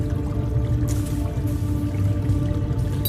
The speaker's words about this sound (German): Also er ist an derselben Stelle, wo er vorher war und es tropft halt jetzt sein Blut dran runter.